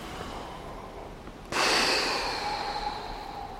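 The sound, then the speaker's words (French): A sudden collective intake of breath from a group, a broad airy rush that starts abruptly and slowly fades over a couple of seconds, with no talking. “Bonne respiration, inspirez.”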